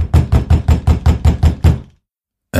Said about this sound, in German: Plötzlich klopfte es laut an der Tür.